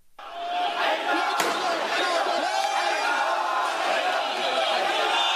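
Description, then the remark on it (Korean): A large crowd of Iranian protesters in Tehran, Iran, chants and shouts together against the Saudi Arabian government over its execution of nearly 50 Shia people, a loud, dense, continuous roar of many voices, steady throughout, with one sharp bang early on. “네, 이란인들이 수도 테헤란에서 사우디아라비아 정부를 비난하며 시위를 벌이고 있는 소리입니다.”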